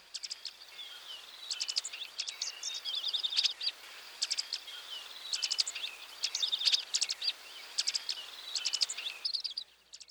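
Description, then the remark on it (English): Sharp, high dark-eyed junco call notes sound repeatedly in quick clusters of chips and twitters, clear, with short pauses between bursts over a faint background hiss. “Here are its characteristic call notes.”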